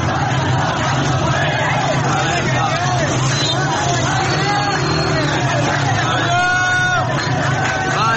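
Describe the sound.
A crowd of protesters shouting in the street in the town of Veys, north of Ahvaz in Khuzestan, Iran, protesting over access to drinking water and water cuts; a loud, dense roar of many overlapping voices with occasional higher yells rising above the steady babble throughout.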